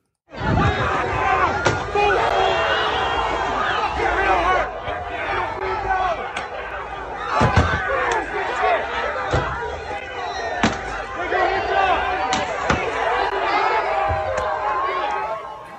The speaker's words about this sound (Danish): Og vi kan høre altså George Floyd, de her, det bliver råbt til sidst. Det her, det var en kort montage af demonstrationer, protester og optøjer, som er fuldt i kølvandet.